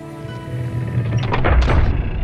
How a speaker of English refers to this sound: Guards lightly bow to the monks as they pass through the doorway carrying the shipwrecked stranger. Once past, the guards step behind the doorway and close off the entrance.